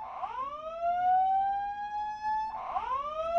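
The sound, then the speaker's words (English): A studio fire alarm, going off in '08, whoops loudly, its tone sweeping upward and holding, then restarting for a second rising cycle. No voices are heard over it. “At Greg Draper tweets, how about the fire alarm in 08? Classic studio moment.”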